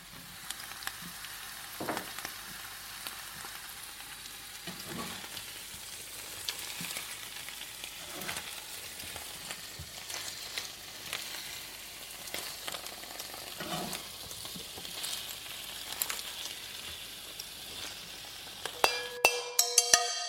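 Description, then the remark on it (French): A steady, crackling sizzle of chard leaves, cut in large pieces, frying with poached chard stems over high heat for 2–3 minutes, with occasional soft stirring scrapes and clinks breaking through the continuous hiss; no one speaks. “et les feuilles coupées en gros morceaux ou même carrément entières à feu vif pendant 2-3 minutes.”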